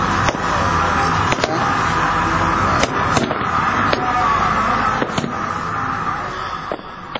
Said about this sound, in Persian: شب گذشته در کابل آتش بازی هم انجام شد.